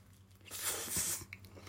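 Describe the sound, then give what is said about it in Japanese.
Close-up chewing of crunchy food containing ham and crisp lettuce: a dense, crackly burst of crunching in the middle, with softer moist chewing before and after and no talking. “ということで咀嚼音がしますので、ではいただいて、いただいて、か、カミカミじゃねえかよいただきたいと思います。”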